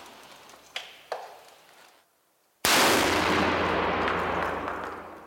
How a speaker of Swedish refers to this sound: Skottet går av och väskan förstörs.